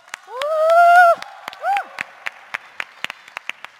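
A whooping cheer rises and holds, followed by a shorter shout, then scattered applause from a small audience at a Microsoft Mexico presentation as a colleague is invited onstage: sharp, uneven claps that stay moderate in loudness and thin out toward the end.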